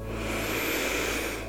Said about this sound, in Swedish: Så sätt dig bekvämt. Så ska vi börja. Och vi andas in ett djupt och skönt andetag.